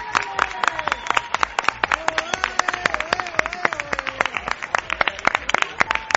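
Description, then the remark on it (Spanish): A crowd claps steadily for several seconds as Judge Castro rides a motorcycle up the ramp, sharp overlapping claps forming a dense, continuous patter, with a person's voice talking faintly underneath throughout. “Muy diferente ha sido la salida del juez Castro, que subía la rampa en moto unos minutos después de doña Cristina y lo hacía entre aplausos.”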